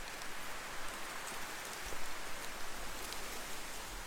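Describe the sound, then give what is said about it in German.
The first drops of rain begin to fall on a warm summer day: raindrops patter steadily on a surface, a soft, continuous hiss of light rain with occasional sharper drips standing out, fairly quiet, with no voices. “Warmen Sommertag die ersten Tropfen eines Regens beginnen zu fallen, gehen die Menschen nach innen.”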